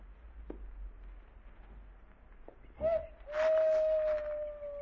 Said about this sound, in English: Did you hear that owl? Yeah. Remember hearing it a ways back? Well, yeah, I guess. What's wrong with the owl hooting? Generally, wild animals only squawk when something bothers them.